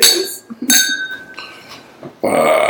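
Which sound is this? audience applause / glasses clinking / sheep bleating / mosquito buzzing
glasses clinking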